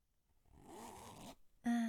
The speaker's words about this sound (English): And let me just put this here. And zip that up.